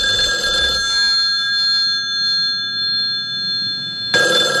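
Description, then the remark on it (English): A telephone rings with a steady, bright electronic tone, two short bursts of ringing separated by a long sustained buzz, fairly loud with no talking. “Answer the phone, Vicky.”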